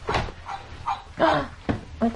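A dog barks in a quick series of about six short, yappy woofs, one slightly longer than the rest, with a thin, toy-like tone.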